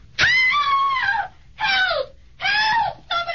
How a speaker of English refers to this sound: Help! Help! Help! Hey, what's the matter? What was she screaming about, mister?